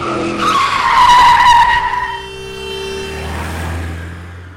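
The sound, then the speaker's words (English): A car skids with a loud, high screech of tires that swells for about two seconds, then fades into a lower engine hum and rumble. “that's a car!”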